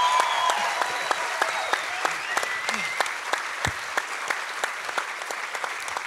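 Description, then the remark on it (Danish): A crowd applauds Troels Møller, clapping steadily. A dense wash of many hands has sharp individual claps standing out, sustained at an even level for several seconds without voices rising above it. “Og så giv et kæmpe stort bifald til Troels Møller, mine damer og herrer.”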